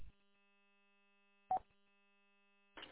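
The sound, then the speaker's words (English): A car relay clicking over and over, sharp snaps roughly every second and a half, with a steady low electrical hum running underneath and no voices. “I'm not sure if it's a relay, it just sounds like one. It's a constant clicking.”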